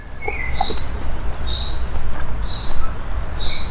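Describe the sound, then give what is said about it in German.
A common chaffinch gives its rain call in a Berlin city park: a short, buzzy chirp repeated roughly once a second, with a few faint, higher notes in between, over a steady low outdoor rumble. “Der sogenannte Regenruf des Buchfinkens, von dem man aber inzwischen weiß, dass er keinen Regen ansagt.”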